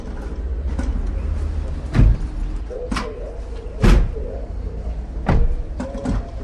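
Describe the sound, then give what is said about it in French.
A large orange metal security gate, one of two enormous gates forming an airlock, rolls and clanks shut, with several heavy thuds and bangs over a steady low rumble like an idling engine. “On est dans un espèce de sas, en fait, entre deux énormes portails orange.”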